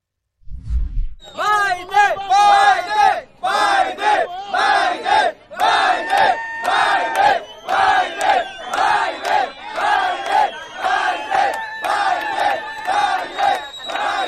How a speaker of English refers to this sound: Tape emerged yesterday of illegal immigrants on their way to the United States. And as they were marching, they were cheering Joe Biden's name.